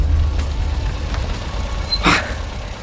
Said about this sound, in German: Nach 2-3 Kurven waren sie außer Sicht, sodass Bob den Wagen auf dem sandigen Seitenstreifen abstellen konnte.